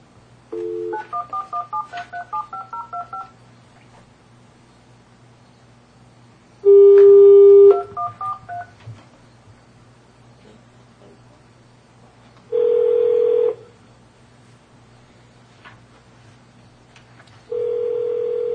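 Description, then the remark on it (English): A quick run of telephone keypad tones dials a number for a call placed by the Board of Equalization of Taney County, followed by three long ringing tones spaced several seconds apart as the call rings, over a steady low hum. “I think we can phone them. Call them now.”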